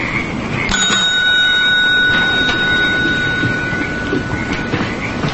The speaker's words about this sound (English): Later, the two men enter the motel office. Frost rings a bell on the counter and looks around.